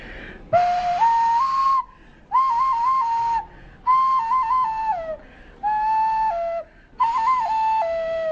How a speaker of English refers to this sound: the Nambiquara, as far as I know, make nose flutes like that.